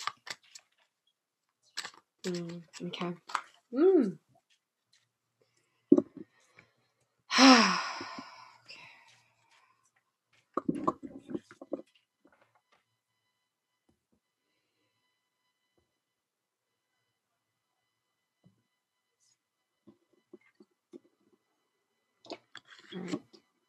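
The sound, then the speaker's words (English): Short bursts of crisp papery riffling and clicking from a deck of cards being shuffled come in a few separate clusters with quiet gaps between them. A soft breathy sigh is heard, and there is no talking. “this deck was my daughter's daughter, so they're not fully okay. Shuffle it one more time.”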